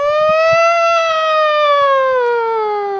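A loud siren wails steadily for a few seconds, its pitch sliding gradually downward, continuous with no talking over it.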